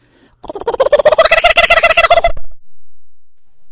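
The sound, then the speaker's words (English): A human voice imitates a kookaburra's laughing call: a loud, close burst of rapid, rhythmic cackling hoots lasting about two seconds, then silence. “Or the kookaburra is gugar gagar.”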